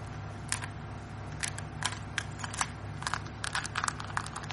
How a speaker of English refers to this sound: Listen. He's chewing his way out of the shell. Won't he... it suffocate under the gravel? But he's not resting, and yet fighting his way out of that shell must be exhausting him.